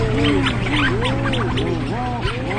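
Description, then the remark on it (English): A dense chorus of seabirds at night at a colony: rhinoceros auklets, out of their burrows socializing, give very loud, low, rising-and-falling moaning calls, overlapping constantly, while storm petrels add quick, higher purring notes scattered through the din. “And that one is where you have the really, really, really loud mooing, and then there's a couple doo-doo-doo-doos tossed in there from the storm petrels.”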